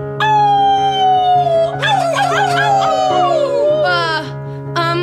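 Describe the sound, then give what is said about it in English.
Several wolves howl together in long, sliding, wavering cries that overlap and rise and fall, with a steady low hum running underneath throughout. “That looks like the bunch of wolves that used to be a boat and are now just sort of a bunch of tied together wolves that came up through the elevator.”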